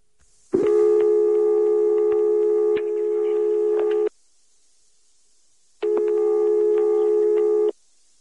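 A telephone line tone from a dialed number sounds twice as long, steady, buzzy beeps of a few seconds each, separated by a short silence. It is clear, with no voices.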